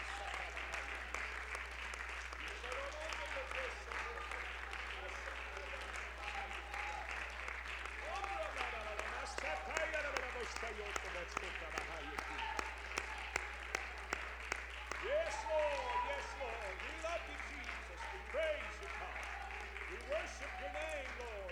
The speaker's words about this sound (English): Praise the Lord. Would you give the Lord a hand clap of praise right now? Thank you, Jesus. Thank you, Jesus.